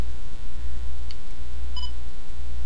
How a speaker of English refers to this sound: Now you'll notice that when I press the record button, we heard a beep confirming that we were recording. When I pressed the stop button, we received a double beep confirming that we had stopped. The beeps are turned on by default on this unit.